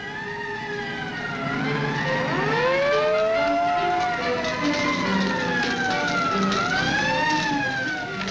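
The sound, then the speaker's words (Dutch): A Dutch fire brigade engine on its way to a forest and heath fire, its siren wailing steadily, pitch gliding up and down in long overlapping sweeps, with several sirens layered together over a low rumble of traffic. No one speaks. “Enkele minuten later is de brandweer onderweg.”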